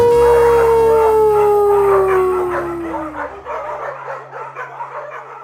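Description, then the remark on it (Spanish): A dog lets out a long, loud howl that slowly slides downward in pitch, then breaks into a quick run of yips and short barks that trail off more softly. “Ahora sí nos despedimos. ¡Aú!”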